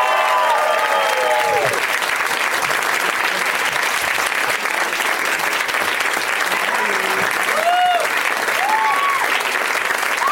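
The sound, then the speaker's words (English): Sustained audience applause welcoming Paul F. Tompkins, Jen Kirkman and Harry Dean Stanton, a dense steady wash of clapping that stays loud throughout, with scattered cheers and whoops rising above it. “Summon them with your applause and love.”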